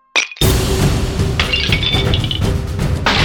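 A loud smash as a police baton strikes the head of a meter-high plaster angel statue in a chapel and it breaks apart, followed by a few seconds of crumbling, rattling debris. No one speaks.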